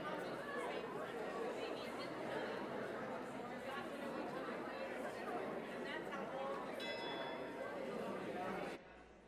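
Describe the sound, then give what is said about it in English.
A hand bell rings briefly near the end, its bright tone partly buried under the loud, steady chatter of a church audience standing and greeting one another; the bell calls them back. “I'll call you back with our bell, invite you to remain standing afterwards.”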